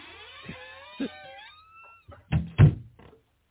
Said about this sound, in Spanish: Déjame cerrar la puerta aquí, dale.